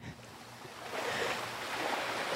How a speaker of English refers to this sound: There's no, like, roaring waters? Because those are birds. It's a quiet stream.